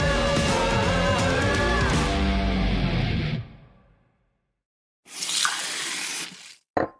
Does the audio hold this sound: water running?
yes